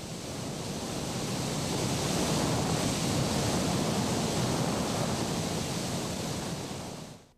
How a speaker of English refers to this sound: Now it's time to kasher. Hot water is trucked over, steam lines are connected, and then, just like your pot at home you kashered last month for Pesach, the hot water boils over the top of the tank.